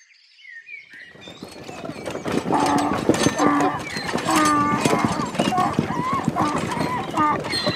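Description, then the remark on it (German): Hooves of tired donkeys clip-clop in a steady rhythm on the Eselsweg, a historic trade route between Orb and Miltenberg, in poor weather. The hoofbeats start after a brief quiet moment and continue throughout, with voices murmuring underneath. “Das Wetter wird auch nicht besser und die Esel sind müde.”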